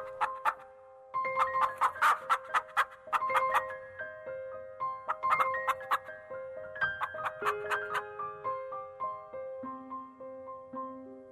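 A song plays with bright, chiming melodic notes over sustained tones and crisp rhythmic hits, moderately loud and up close, with no voices, easing into softer low notes near the end.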